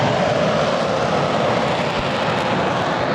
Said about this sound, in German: Im Frühsommer 2023 donnern Kampfjets über das Rollfeld in Lager Lechfeld bei Augsburg. 2 Eurofighter jagen hinauf in die Wolken zu einem Übungsflug.